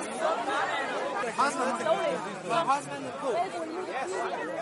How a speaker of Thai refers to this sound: เสียงผู้อพยพที่กำลังรอรถไฟเที่ยวที่จะไปกรุงเวียนนาของประเทศออสเตรเลียซึ่งทั้งออสเตรียและเยอรมนีตกลงที่จะรับคนเหล่านี้หลายพันคนที่จะเดินทางจากประเทศในตะวันออกกลางจำนวนมากซึ่งหนีภัยสงคราม